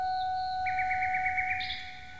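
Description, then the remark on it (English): A phonograph recording of a nightingale, heard among the trees of Rome, played by Respighi at the end of the third movement of The Pines of Rome: a high whistled note, then a quick run of rhythmic trilled pulses rising into a sharper, higher whistle, all over a steady faint hum. No one speaks. “And at the end of the third movement of The Pines of Rome, Respighi played a recording of a bird that he had actually heard among the Roman trees, a nightingale.”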